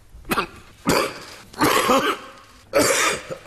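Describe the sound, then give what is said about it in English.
Josh Frydenberg's coughing fit during a big economic speech: a run of harsh, raspy coughs in quick bursts, four or so spread over a few seconds, fairly loud, with some throaty clearing mixed in and no talking. “Yeah, Paul Keating had the recession we had to have, and Josh Frydenberg had a coughing fit.”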